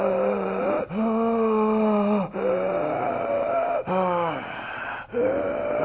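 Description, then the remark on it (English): A person imitates labored breathing: about five loud, strained breaths in a steady rhythm, each with a groaning, voiced rasp, with brief pauses between them and no other talk. “What kind of breathing would that be? Labored breathing.”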